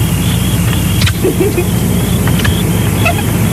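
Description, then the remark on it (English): The 318 V8 engine of a new Dodge Dart Swinger car, left running, idles with a steady low rumble that holds evenly throughout with no revving, joined only by a few faint, brief clicks and squeaks. “You left your motor running.”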